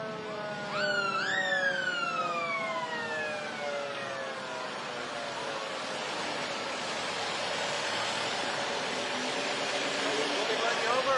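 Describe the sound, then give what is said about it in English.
An ambulance siren from the San Luis Ambulance entry in a holiday parade gives a short, loud rising-and-falling wail near the start, then fades into a steady wash of outdoor crowd noise and murmuring voices. “And our next entrance is San Luis Ambulance.”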